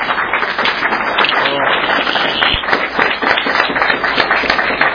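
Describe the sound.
An audience applauds steadily to thank a speaker, with dense, crackling hand claps sustained at an even, fairly loud level throughout, a few voices faintly mixed in.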